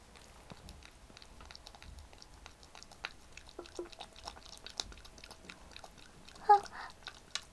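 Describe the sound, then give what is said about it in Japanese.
Crunching on a cucumber: a steady run of soft, crisp bites and moist chewing clicks, with one louder wet crunch near the end. No one speaks. “で、最後が3位のきゅうり。”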